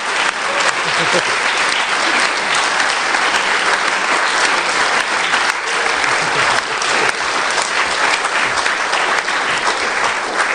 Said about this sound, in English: So can we also have a big round of applause, not just for